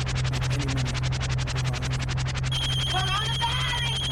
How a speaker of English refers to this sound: Hold on. Let me get the phone.